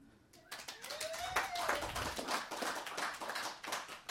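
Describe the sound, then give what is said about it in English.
A crowd breaks into steady applause after a brief quiet moment, many hands clapping densely for several seconds, with a short whistle or cheer rising through the clapping early on. “I had pause for applause.”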